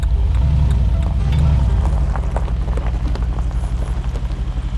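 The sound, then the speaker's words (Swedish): A car drives steadily along a gravel road past farmland on the Costa Cálida coast in Spain, a low engine rumble beneath constant crunching and popping of stones under the tires, with no voices. “Jag kör bil på en grusväg.”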